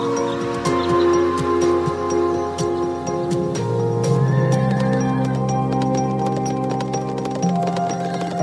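A horse neighs in long, wavering tones while hooves clop steadily beneath it, a loud and continuous blend of whinnying and rhythmic hoofbeats with no voices.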